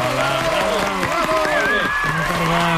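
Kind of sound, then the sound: crowd, long loud applause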